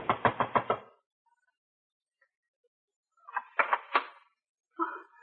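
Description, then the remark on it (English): Knocking on a front door at almost 10 o'clock by a next-door neighbor wanting to borrow milk: a quick run of about five firm raps, a pause of silence, then a second, slightly uneven burst of knocks, fairly loud. “Why don't you answer? It's almost 10. Don't answer it.”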